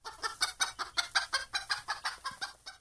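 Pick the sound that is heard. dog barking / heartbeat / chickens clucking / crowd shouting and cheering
chickens clucking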